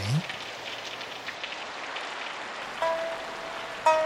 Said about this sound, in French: Mais je dois dire que le son de la pluie me fait toujours de l'effet.